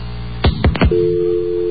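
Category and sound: signal or alarm, telephone dial tone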